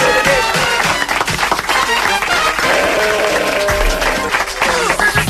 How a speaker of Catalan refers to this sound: amb aquests aplaudiments anirem a publicitat